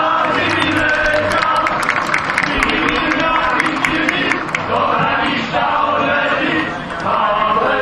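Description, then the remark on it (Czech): A large audience applauds and cheers loudly and continuously for a men's choir from Vlčnov, the dense clapping and shouts filling the whole stretch with only slight dips in intensity. “Takže proto teď potlesk pro mužský sbor z Vlčnova.”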